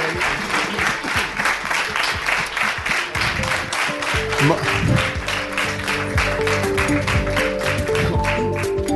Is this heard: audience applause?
yes